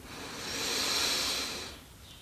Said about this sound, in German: Wir nehmen alle gemeinsam den ersten tiefen Atemzug und atmen ein.